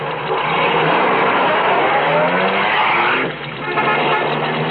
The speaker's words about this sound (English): Hey, there's a car coming. It's pulling off the highway.